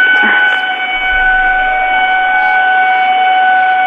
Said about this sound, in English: So, listeners, if you're unfamiliar with this is a lunk alarm at a Planet Fitness. And yes, it's very loud. It really annoys the customers.